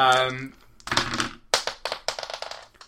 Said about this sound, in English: Right, give me a roll of actually all four dice. Yeah, I think I'm going to need them.